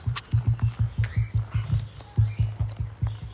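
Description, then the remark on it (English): A female emu's deep, resonant drumming call: a steady run of low, booming thumps pulsing roughly every fifth of a second, fairly loud, with faint bird chirps in the background. “The females make this otherworldly drumming sound, while the males grunt more like pigs.”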